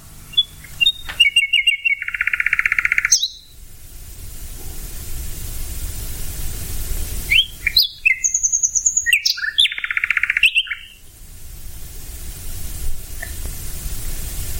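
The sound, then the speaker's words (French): A songbird sings at night, two bursts of rich, varied phrases with rapid trills and whistles, separated by a pause. A steady hiss of background noise runs throughout, and no one speaks. “De jour, son chant est masqué en partie par les autres chanteurs, merles, grives, pinsons, etc.”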